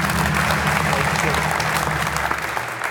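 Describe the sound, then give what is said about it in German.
A steady wash of audience applause welcoming guests Andreas Möller and Halil Altdorf, dense crackling clapping at a fairly loud, even level throughout, easing off slightly at the very end. “Euer Applaus.”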